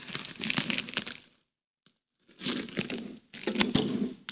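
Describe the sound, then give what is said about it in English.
Thin pages of a paper Bible turn and rustle as someone turns to Genesis 1. There are three crisp, crinkling bursts: the first is followed by a brief silence, then two more flurries of riffling. No one speaks. “I'm going to use a paper Bible.”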